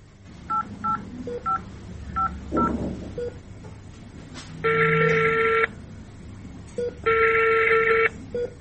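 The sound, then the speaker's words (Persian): A mobile phone being dialed to call the police commander, with a rapid series of short keypad tones, followed by two long ringback buzzes separated by a pause. The tones are clear against a quiet background. “خو حالی را بان توی موبایل ما بده.”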